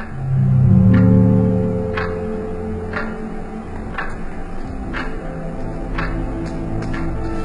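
A clock ticks steadily about once per second, each tick crisp, over a low hum and faint background noise; no one speaks.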